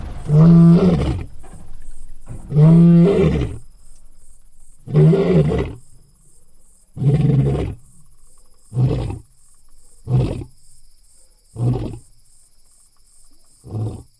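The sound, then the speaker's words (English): A dominant male lion roars in a long bout: a few deep, full roars that taper into a rhythmic series of shorter grunting calls, evenly spaced and fading in strength, with quiet gaps between. “That's a lion. Wow, a lion.”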